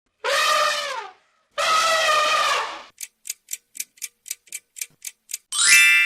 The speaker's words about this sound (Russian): Ты все угадал. Так делает слон.